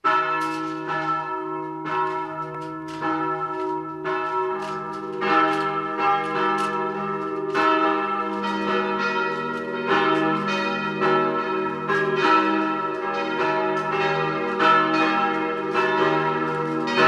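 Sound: church bells ringing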